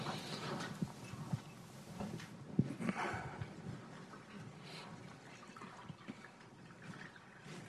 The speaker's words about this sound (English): I'll pour you some water.